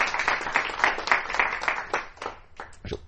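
A burst of audience applause, many hands clapping in a dense, steady patter that thins out toward the end into a few scattered claps. No one speaks.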